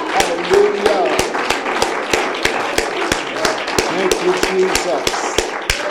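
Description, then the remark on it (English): An audience at a worship service claps together in a steady, rhythmic beat as a praise offering to God, sharp claps repeating roughly three times a second over a dense wash of cheering voices. “Would you clap to God a praise offering?”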